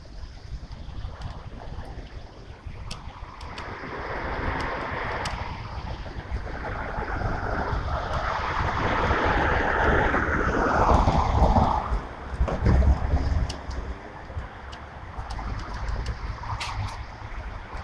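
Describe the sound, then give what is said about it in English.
Strong gusty wind roars outdoors at night, buffeting the microphone with heavy low rumbles that rise and swell in surges, peaking loudly near the middle before easing. No voices are heard. “It's pretty windy tonight.”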